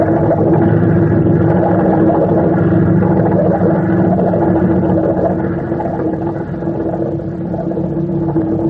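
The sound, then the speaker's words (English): A boat engine starts and runs steadily and loudly, a continuous droning rumble with a constant hum that barely changes over several seconds, with no voices. “Look, I will start the engine. Oh, listen to that.”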